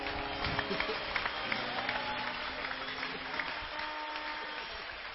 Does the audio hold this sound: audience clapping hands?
yes